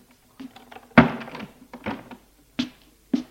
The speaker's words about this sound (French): Et elle ferme la porte.